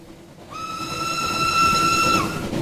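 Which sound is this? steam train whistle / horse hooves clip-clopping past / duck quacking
steam train whistle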